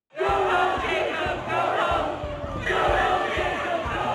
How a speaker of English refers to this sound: And one night, the crowd came calling for Jacob Frey, the mayor of Minneapolis.